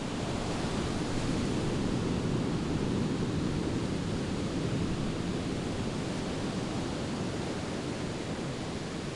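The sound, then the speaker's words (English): A steady, full-bodied roar of Pacific Ocean surf washes continuously on Ocean Beach in San Francisco, with no distinct breaks between waves and no voices, holding an even loudness throughout. “Ocean Beach stretches 3.5 miles down SF's Pacific coast.”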